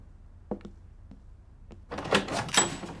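household object, door being opened

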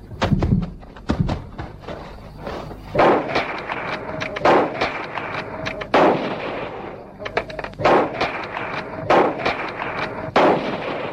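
impact, gunshots

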